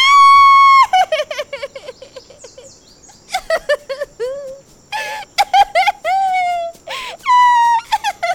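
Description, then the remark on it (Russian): Someone cries loudly: long, high-pitched wails broken by choppy sobbing bursts, then rising into drawn-out howls again. No other sounds intrude. “И вдруг, как будто кто-то включил громкость на полную мощность, раздался чей-то плач.”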